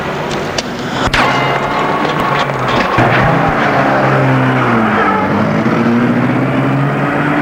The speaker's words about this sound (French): Puis, elle entre elle-même. Elle met la voiture en route.